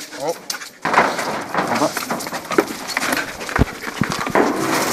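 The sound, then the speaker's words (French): A dog rummages through hay searching for its hidden toy, a continuous dry crackling rustle broken by sharp snaps and thumps, starting suddenly after a brief murmur of a voice. “Alors là, le chien cherche.”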